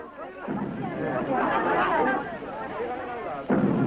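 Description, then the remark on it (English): Godzilla's thunderous footsteps from the Godzilla films: two heavy booming impacts about three seconds apart, each hitting suddenly over a continuous loud din of rumble and crowd-like clamor. “Even before you saw Godzilla, you heard his footsteps falling on the earth ominously, shaking buildings and trees.”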